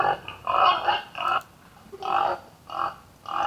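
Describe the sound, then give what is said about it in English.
A pig grunts and oinks in a quick series of about half a dozen nasal bursts, clear, with brief pauses between calls and no talking. “All right, let's go from donkeys to boars / pigs.”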